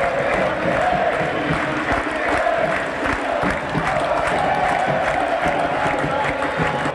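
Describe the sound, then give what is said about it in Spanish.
A loud stadium crowd of Olimpia fans roars and cheers continuously after Darly González scores Olimpia's second goal, assisted by Jorge Rojas, putting Olimpia ahead 2-0. A dense wall of voices with whistles and shouts, sustained at steady intensity throughout. “Lo hizo Darly González y Olimpia pasa a ganar el partido por 2-0. El grito franjeado, escuche.”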